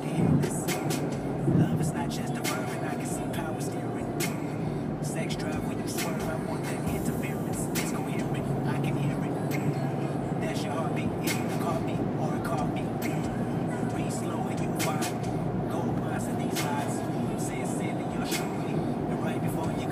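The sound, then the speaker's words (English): Steady, loud road rumble from inside a moving vehicle as it passes another car, a continuous low roar of tires and engine that holds for the whole stretch, with faint muffled voices underneath. “Alright, yeah, let's pass this car.”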